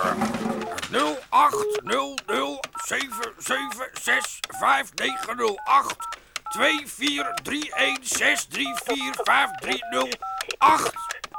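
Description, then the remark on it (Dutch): Short, steady telephone keypad tones beep one after another, mostly in the second half, as the phone number printed on a smoked sausage package is dialled, while a person talks continuously over them. “Zo niet, bel dan met meteen even doen.”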